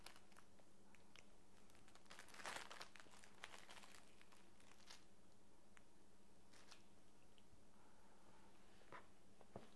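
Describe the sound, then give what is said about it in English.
Quiet crinkling and crunching of paper being chewed, with a cluster of sharp rustles early on and scattered crackles afterward; no talking. “Oh, no, no, no, eating paper. No eating paper, silly.”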